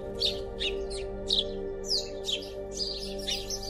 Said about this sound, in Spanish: A Rayenari, el sol, le complacía escucharlo. Como buen gorrión que era, Churugui se sabía a la perfección todos los cantos que los abuelos pájaros habían creado.